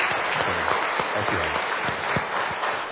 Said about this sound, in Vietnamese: Chúng ta dâng lên Chúa một tràng pháo tay nữa để cảm tạ Ngài.